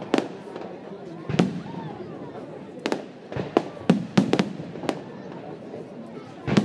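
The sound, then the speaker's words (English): Fireworks bang and crackle in a rapid, irregular volley, roughly a dozen sharp reports, some in quick clusters, over a low murmur of background voices. “We actually see the effects a fraction of a second before. Before you hear the bang, because the light travels so much faster.”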